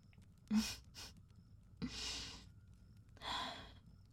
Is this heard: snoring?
yes